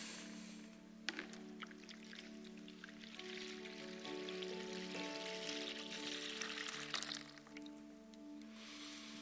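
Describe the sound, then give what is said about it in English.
Water pours steadily into a bowl for several seconds, a continuous splashing trickle whose ringing tone shifts as the vessel fills, with no voices. “And fills the bowl.”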